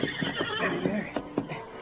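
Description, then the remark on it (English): In a Lone Ranger story, Billy's waiting horse neighs loudly, a shaky, quavering whinny lasting a couple of seconds, with a few sharp breathy bursts toward the end and no voices. “Putting as much gold and silver into his pockets as he could, Billy took one last look at his newly discovered treasure, then ran to his waiting horse.”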